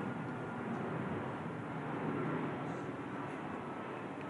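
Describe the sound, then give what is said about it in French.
A steady, broad roar of an airplane passing overhead, holding at a fairly even loudness throughout with no voices on top. “Alors, on va laisser le poème passer l'avion.”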